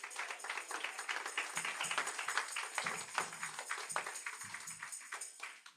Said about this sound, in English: Let's just give the Lord a hand clap for getting up.